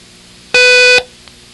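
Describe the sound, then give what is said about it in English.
A single loud, steady electronic beep lasting about half a second, with a bright harmonic tone, starting and stopping abruptly against near silence. It is the long beep in a listening exercise where listeners write dang for each long beep. “I want you to write dang, D-A-N-G, for each long beep, and a it for each short beep.”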